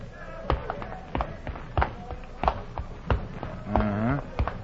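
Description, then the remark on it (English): Steady jump rope skipping footwork in a boxing gym, a boy skipping rope to show his footwork: about seven crisp, even thumps spaced just over half a second apart, with a short murmur of a man's voice briefly overlapping near the end. “Skipping ropes never knocked out anybody.”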